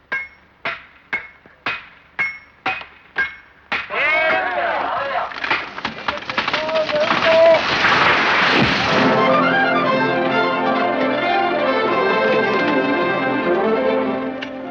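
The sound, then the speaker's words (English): Seven steady, evenly spaced hammer blows ring out clearly as a log cabin is built, then a dense wash of music and busy construction clatter takes over, with further knocks and thuds mixed in. “And within that, I love the little montage of them doing the home building.”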